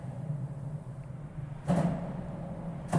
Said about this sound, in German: So klingt es, wenn man reinkommt in die Brücke und über einem die Autos donnern.